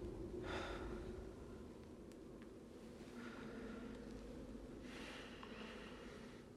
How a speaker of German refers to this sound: atmet schwer und schaut ängstlich in die Runde.